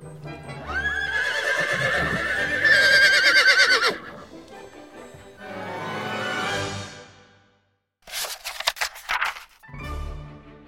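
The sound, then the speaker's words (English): A horse neighs loudly with a long, wavering whinny, followed by a second neigh and then quick, sharp hoofbeats clip-clopping, with no one talking. “Suddenly, the pumpkin turned into a grand coach, and the mice turned into 6 strong horses.”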